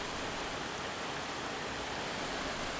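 Steady, even rain falls without pause, a dense hiss spread across the whole range with no distinct drops standing out and no voices.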